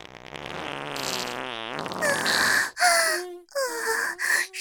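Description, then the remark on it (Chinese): A long, drawn-out fart, then a run of three or four shorter, squeakier bursts with brief gaps between them. Loud, with no talking over it. “嗯， 啊， 不行，又要放屁了。”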